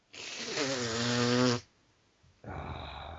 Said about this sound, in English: Hang on, let me just blow my nose.